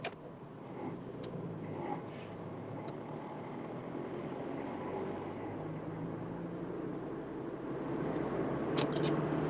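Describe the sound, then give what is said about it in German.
A car drives along with a steady low engine rumble that slowly builds louder toward the end as it accelerates, with a few faint clicks over the top and no talking. “geben Sie doch mal Gas.”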